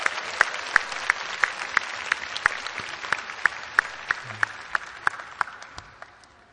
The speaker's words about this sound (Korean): 어디예요? 2교구. 우리 2교구를 위해서 격려의 박수를 한번 쳐드리십시오.